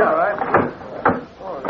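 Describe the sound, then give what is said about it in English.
A door being opened, with a few short wooden clunks and rattles spaced roughly half a second apart, over a murmur of voices in the background. “Open that door”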